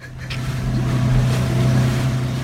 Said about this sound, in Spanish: que estoy escuchando una lancha y no me extrañaría que fueran los Amaya, ¿eh? Que son enterados todos de la boda y vienen a hundirnos el barco.